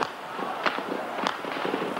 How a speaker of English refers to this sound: The noise of gunfire rose from all over the centre of Peking. It was unremitting. On the streets leading down to the main road to Tiananmen Square, furious people stared in disbelief at the glow in the sky, listening to the sound of shots.